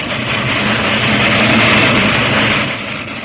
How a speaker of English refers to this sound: Hey, little girl, keep away from the line, there's a train coming. Hey, keep away, hey there. But get away, you'll be run over. Look out for the train! Look out!